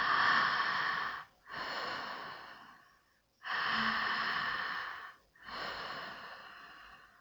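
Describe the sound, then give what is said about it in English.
Slow, deep breaths drawn in through the mouth into the pelvic area and pushed out through the mouth during a breathing exercise with pelvic tilts, four long airy breaths in a steady rhythm, fairly loud, with brief pauses between them and no talking. “As you are taking long deep breaths in through the mouth, into the pelvic area, tilt your pelvis backward. And as you are breathing out through the mouth from the pelvic area, tilt your pelvis forward.”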